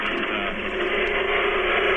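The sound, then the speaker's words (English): A garbage disposal with a wedding ring dropped into it while dishes were being washed grinds away with a loud, steady mechanical roar, a dense rattling whir that holds at the same level for about two seconds without pause. “Just dropped my wedding ring into my garbage disposal.”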